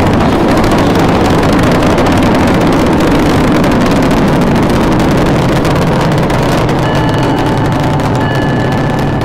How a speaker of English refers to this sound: 10, 9, 8, 7, 6, 8, start, 2, 1, boost ignition, and liftoff of the Space Shuttle Discovery, returning to the space station, paving the way for future missions beyond.